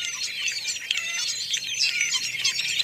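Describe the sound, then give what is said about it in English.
A busy chorus of fruit-eating starlings, travelling with a flock of robins while searching for food, chattering and calling continuously, dense overlapping whistles and squeaky chirps filling the air at moderate volume, with no voices present. “Sometimes other fruit-eating birds, such as these starlings, accompany them.”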